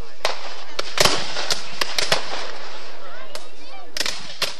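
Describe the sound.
Blank gunfire at the 2013 reenactment of the Civil War Battle of Selma, Alabama, fired by costumed Civil War buffs: about a dozen sharp, irregular cracks and pops, some louder than others, crackling over a steady noisy background with faint voices.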